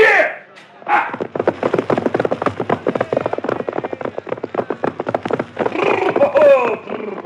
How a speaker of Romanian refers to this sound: Uite, încalic pe cal și mă opresc în fața boierului.